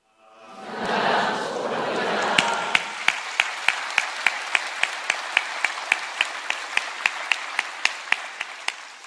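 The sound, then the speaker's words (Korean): An audience in Bundang and Suji bursts into loud, dense applause to encourage worshippers joining live from Guri Chapel and Pilgrim House. It soon turns into steady, rhythmic unison clapping, about three sharp claps per second, over a lingering wash of scattered clapping. “분당과 수지에서 큰 박수로 격려해 주시면 감사하겠습니다.”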